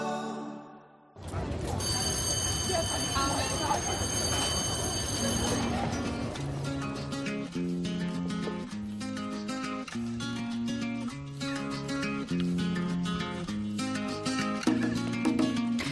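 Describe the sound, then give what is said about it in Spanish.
A shrill, steady school alarm siren rings continuously for about four seconds over a noisy background, signalling that it is time to go into class, then gives way to a bouncy, rhythmic melodic tune that plays to the end. “Has oído, ¿no? La sirena, la alarma. Significa que tenemos que entrar ya en clase.”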